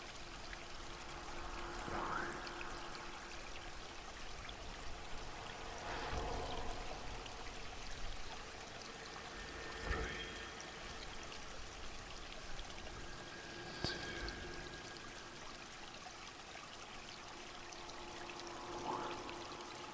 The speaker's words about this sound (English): When I reach 1, I would like you to symbolize the start of your journey with gently splashing the water onto your face.